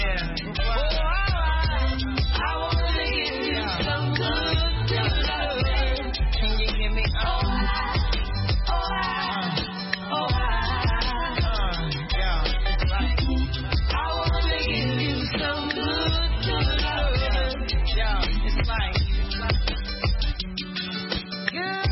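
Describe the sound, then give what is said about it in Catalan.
A song plays continuously at a steady, fairly loud level, with a sung vocal over a full backing of deep bass and rhythmic instruments, slightly muffled in the highs. “Une très belle chanson, bien sûr”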